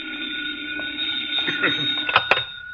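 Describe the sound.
A telephone rings steadily with a sustained, high metallic bell tone that holds for the whole stretch, while faint voices and a few sharp clatters sound underneath.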